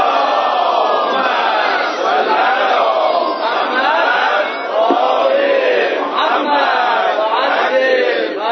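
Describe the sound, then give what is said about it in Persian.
A large crowd at a Persian-language religious lecture chants salawat together in unison, a loud, sustained wall of many voices rising and falling in steady rhythmic phrases for several seconds. “گرچه این صلوات های شما نشان میده که هنوز خسته نشدید.”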